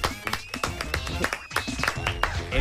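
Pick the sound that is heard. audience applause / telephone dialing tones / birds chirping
audience applause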